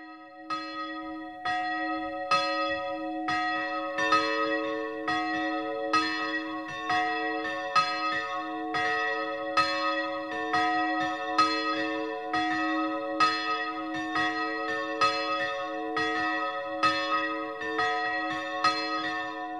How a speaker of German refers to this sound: Das 12 Uhr läuten kommt heute aus der Wallfahrtskirche Maria Kunterweg in der Ramsau bei Berchtesgaden.